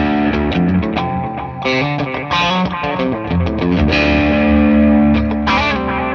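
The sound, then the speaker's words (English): Electric guitar played through a Clarksdale overdrive pedal and tape echo, a loud, continuous run of gritty notes and chords with repeats trailing behind, with no talking. “You're playing on the Clarksdale and the tape echo.”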